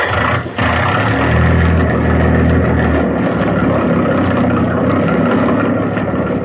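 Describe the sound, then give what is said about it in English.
A motor roars loudly after a brief stutter at the start, then settles into a steady, rumbling drone that runs on without pause. No one speaks. “I'll get the motor started.”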